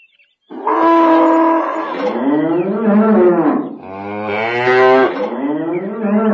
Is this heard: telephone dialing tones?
no